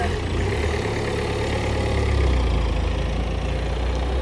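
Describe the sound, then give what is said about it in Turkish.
A car stopped in front of a pedestrian idles with a steady, continuous low rumble and faint mechanical hum, holding an even loudness throughout, with no voices. “Önünden araba durmuş, çıkartılabilir.”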